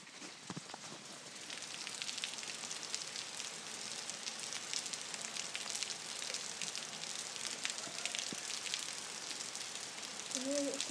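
Steady rain patters down in a dense hiss at 10 p.m. on 23 August in the UK, heard from a spare room window, with sharper drops striking metal rails next to a back door and giving off occasional small dings. No one speaks.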